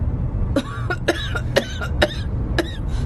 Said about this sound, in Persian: با این سرفه نمیتونی غواصی کنی. نگران نباش، یه لیوان چای و یکم خواب درستش میکنه.